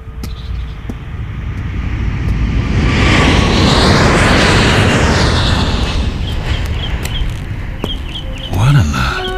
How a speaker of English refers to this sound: Doctor, just that plane. What about it? Does it always fly directly over the grounds? Every day, on its way to the airport.